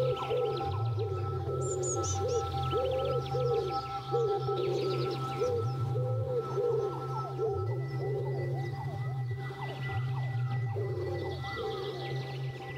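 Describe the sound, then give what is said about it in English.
Pigeons coo over and over in low, rolling phrases against a steady hum of city background noise, with occasional high bird chirps mixed in. No one speaks. “So that's the urban scape of the pigeon.”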